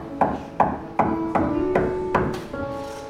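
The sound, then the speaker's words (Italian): Seven sharp knocks on a door in a slow, even rhythm, each a crisp thud over a soft, sustained musical tone that hums underneath. “sta bussando, chiudi i tuoi occhi e se tu lo desideri veramente, digli: Signore, entra nella mia vita.”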